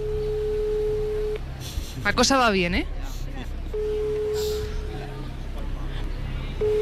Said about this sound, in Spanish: Ponlo en manos libres. Mi pana Elsa tiene en el móvil. Vale, primer tono no lo ha cogido.